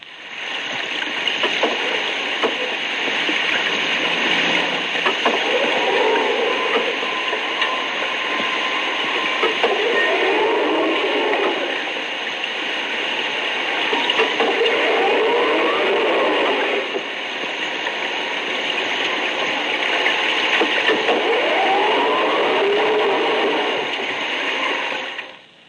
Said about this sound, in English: The operation of auxiliary equipment aboard a sub produces certain characteristic sounds. In the next example, you will hear the intermittent sounds produced by power operation of the bow and stern planes.